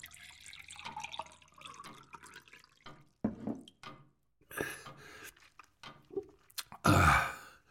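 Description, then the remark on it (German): Water runs from a tap into a glass in short, uneven pours, splashing and ending in a louder gush, with no one speaking. “Ein Glas Wasser. Ja, natürlich. Einen Moment bitte.”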